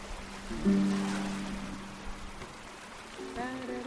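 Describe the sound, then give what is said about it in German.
Soft, steady wash of sea water lapping around a sailboat about 20 meters long, lying about one kilometer off the coast of Tobago in the southern Caribbean, in sunshine with a light, steady breeze and over 30 degrees, continuous, with a brief low droning hum early on and a voice starting near the end. “Ich liege in der Sonne und wiege mich im Takt des Bootes in den Wellen.”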